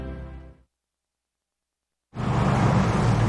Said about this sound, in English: Dylan and Adelaide pull up in his truck.